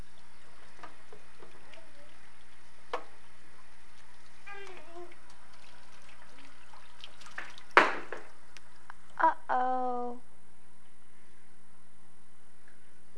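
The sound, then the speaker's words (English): Water runs steadily while dishes are washed, with a couple of sharp clinks of crockery partway through and brief faint vocal sounds over the hiss. “Gotta get the dirty dishes all clean.”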